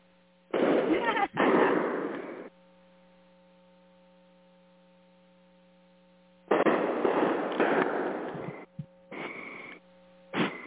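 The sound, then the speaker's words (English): Fireworks crackle and pop in two loud bursts separated by a lull, each a rapid flurry of bangs, with a steady low electrical hum running underneath throughout. “Oh, and here I thought that they had set off all their fireworks and they were just waiting for it to get darker.”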